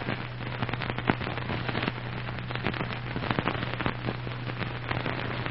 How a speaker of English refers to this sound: A big crackling fire of driftwood lighted up the snowy clearing in front of the igloo.